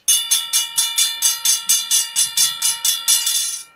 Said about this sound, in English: Take it away. Train's coming!